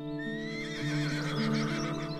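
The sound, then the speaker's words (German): A white horse in a meadow neighs in one sustained, wavering whinny lasting about two seconds, fairly loud, with no talking over it. “War das ein Wiehern?”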